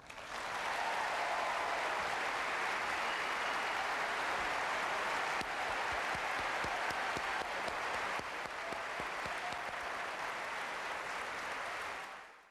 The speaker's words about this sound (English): We couldn't get to hear the first part, but I'm sure you heard the applause for Dana.